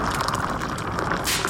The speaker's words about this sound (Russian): Ставим на костер наш дырявый котелок. Наливаем на дно воду.